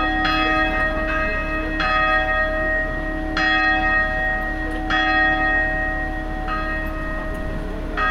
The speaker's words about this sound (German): Hier mittags 3 Minuten lang. Und mit dem letzten Glockenschlag wollen wir dieses schöne Kloster verlassen.